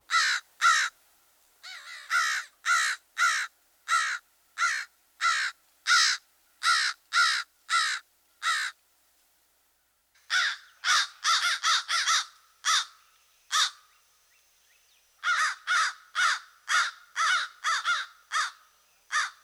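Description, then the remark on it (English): An American crow caws repeatedly in loud, harsh bursts, delivered in steady runs separated by brief pauses, clear with no other sounds around. “The American crow is another species with a well-known vocalization.”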